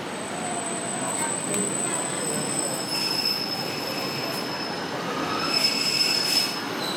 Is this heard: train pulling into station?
yes